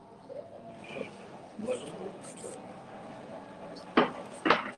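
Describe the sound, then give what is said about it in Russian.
A couple of sharp knocks near the end, loud, the second following about half a second after the first, over a low murmur of background voices. “Давайте, может быть, без стука.”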